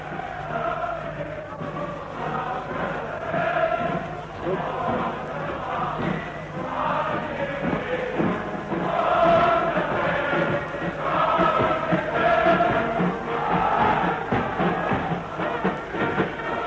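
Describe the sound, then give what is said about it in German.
A large crowd cheers Reich Chancellor Adolf Hitler and shouts without pause, a dense roar of many voices that swells louder in the second half, heard through an open window of the room where Hitler stands. “Sie können jetzt besonders gut hören, die Menge jubelt.”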